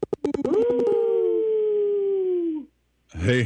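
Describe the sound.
A caller to the Native Roots Radio show imitates a wolf howl: one long, steady tone that swoops up, holds for about two seconds, then sags and cuts off. A few sharp clicks come first; a voice begins afterward.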